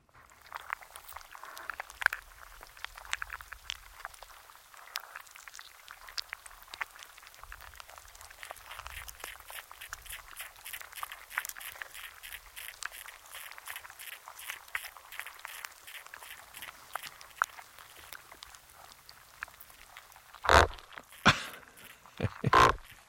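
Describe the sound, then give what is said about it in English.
Recorded in an Alaskan tidal pool by an underwater microphone dropped into the soft mouth of a sea anemone, which swallowed it and then kicked it out: a steady stream of soft, rapid crackling clicks, then several loud, abrupt scraping thumps near the end. No one speaks. “dropped an underwater microphone into the soft mouth of an anemone, which devoured that microphone, and then you can hear, kicks it out.”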